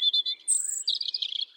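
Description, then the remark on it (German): A European robin sings a quick, high, sweet phrase: a few rapid warbling notes, a thin sustained whistle, then a tumbling run of trills, clear with no voices. “Also Rotkehlchen sind ja mit die aggressivsten Kleinvögel, die es überhaupt gibt.”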